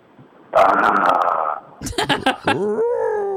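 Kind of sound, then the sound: vocal imitation, person imitating a growl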